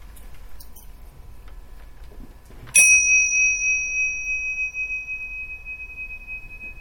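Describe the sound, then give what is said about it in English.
A single bell is struck once after a few seconds of quiet room noise, its clear, high ringing tone sustaining and slowly fading over several seconds. “We'll follow the bell. Raise your hand when you can't hear it anymore.”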